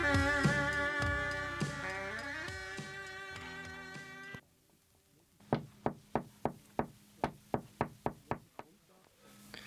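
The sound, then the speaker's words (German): A sustained musical chord fades out, then about eleven sharp knocks follow in a steady, evenly spaced rhythm, a knocking signal tapped on a hard surface, for the radio show Klopfzeichen on Radio Lora. “Klopfzeichen, jeden Sonntag von 12 bis 14 Uhr, Radio Lora, 104,5 MHz.”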